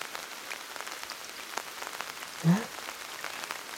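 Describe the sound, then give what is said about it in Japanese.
Steady, dense patter of rain drumming overhead on an umbrella, heard from under the umbrella in rainy weather: a constant crackling hiss of drops with one brief low thud partway through and no voices. “声が一番綺麗に聞こえるのは、雨天時の傘の中なんだって。”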